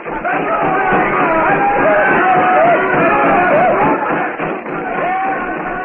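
A large crowd of natives, exhorted by a witch doctor, shouts and clamors together in a dense, steady roar of overlapping voices, with rising and falling cries poking through. It stays loud throughout, with no single voice standing apart.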